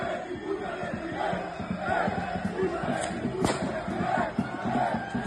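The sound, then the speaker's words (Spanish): A dense, roaring crowd shouts and chants continuously as the Atlético de Madrid team bus arrives at Montjuïc before a Copa del Rey semifinal against Barcelona; partway through, a single sharp bang cuts through as an object strikes the bus. “Eso que oyen son impactos que ha sufrido el autobús del equipo rojiblanco.”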